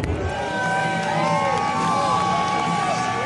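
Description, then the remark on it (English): A huge NFL stadium crowd roars and cheers continuously before the game, a dense wall of overlapping voices with scattered whoops and shouts rising above the steady, loud din. “To hear those loud roars pregame, you know, when the stadium is usually a little quiet, I know that that was a special moment for a lot of those on the field to really feel the appreciation”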